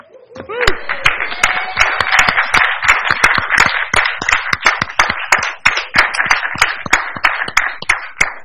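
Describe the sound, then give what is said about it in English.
A crowd at a school district meeting applauds steadily as a principal appointment for Holly Hill K-8 is announced, with dense, overlapping claps and sharp individual hand slaps ringing out throughout, loud and sustained for the whole stretch. “Already applause.”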